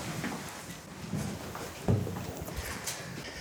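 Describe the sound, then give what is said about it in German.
A door is unlocked with a handed-over key and pushed open: scattered small metallic rattles and scrapes, then a solid clunk near the middle, followed by soft shuffling steps. “Da wird uns ein Schlüssel gereicht. Dankeschön. Die Tür ist sehr gut verschlossen. So, und jetzt kommen wir durch.”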